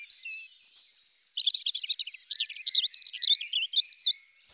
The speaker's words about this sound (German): Eine Ausnahme gibt es da allerdings, das Rotkehlchen. Bei ihnen schmettern auch die Weibchen tolle Arien.